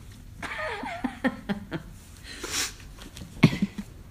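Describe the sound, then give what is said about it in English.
Someone blows their nose in a drawn-out, breathy burst, mixed with soft laughter and snorting sounds before and after. It's fairly quiet. “I'm laughing as I blow my nose.”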